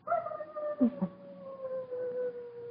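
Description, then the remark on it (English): Foxes barking up on a ridge above a valley during their mating season: a long, wavering howl-like wail carries throughout, broken near the start by a couple of sharp yelps. No one speaks. “The foxes are barking up on the ridge.”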